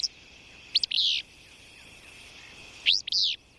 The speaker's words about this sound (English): And there, it's again the insects that sustain birds, like this willow flycatcher, through the summer.